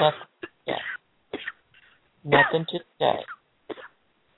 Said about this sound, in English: Now just cough them all out, everyone.